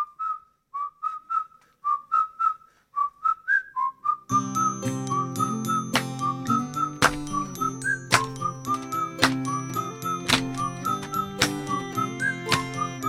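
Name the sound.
whistled melody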